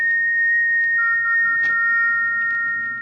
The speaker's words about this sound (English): It's come again. That whistle.